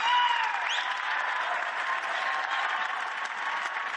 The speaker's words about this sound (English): And guess what? All the people standing up and clapping are people I brought with me. I pay them to do that. I bring my own love.